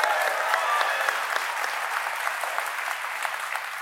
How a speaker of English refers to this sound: You don't have to applaud my questions.